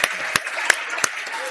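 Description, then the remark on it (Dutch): An audience applauds a children's team that has just won a counting game on stage, a steady wash of clapping with a few sharper, louder claps standing out at roughly even intervals. No one speaks over it. “Groot applaus.”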